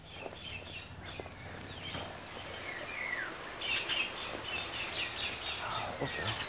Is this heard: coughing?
no